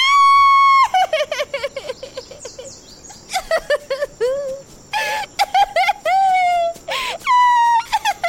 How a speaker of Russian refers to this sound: И вдруг, как будто кто-то включил громкость на полную мощность, раздался чей-то плач.